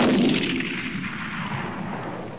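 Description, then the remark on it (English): A single rifle shot, a headshot that kills a lion: one loud, sharp blast followed by a long, rumbling echo that slowly fades over a couple of seconds, with no voices. “Headshot, lion killed. Marius Eben dropped the rifle.”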